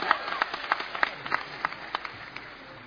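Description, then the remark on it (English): An audience claps together for Jesus in a steady rhythm, about three claps per second, the sharp beats moderately loud against a soft crowd murmur. “Come on, clap for Jesus.”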